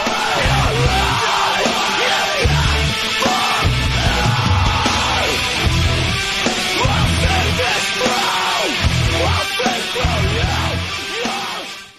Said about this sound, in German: Okay, ist auf jeden Fall Screamo. Richtig. Weil die in diesem Song schreien. Richtig.